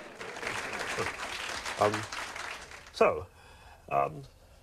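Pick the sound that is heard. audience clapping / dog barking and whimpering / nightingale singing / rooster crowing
audience clapping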